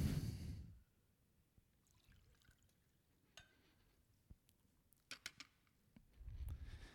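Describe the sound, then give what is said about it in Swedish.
A preacher quietly handles a bottle and glass while pouring and sipping water: a few sharp clicks and clinks, a soft rumble at the start and end, no talking. “Jeg skal ta litt vatten her bare.”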